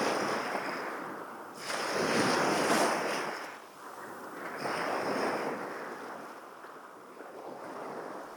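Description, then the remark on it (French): Ocean waves surge and recede in slow, rolling swells, two fuller crashes rising out of a steady hiss of surf, with some wind rushing across the microphone and no voices. “Je ne vois que la mer et ta voiture qui roule dessus, à sa surface.”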